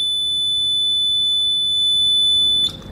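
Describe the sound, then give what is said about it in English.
A single loud, high-pitched electronic beep from a heat stimulator used in pain testing holds one steady tone for about two and a half seconds, then cuts off abruptly, leaving faint low background noise. “Right, there'll be a loud beep.”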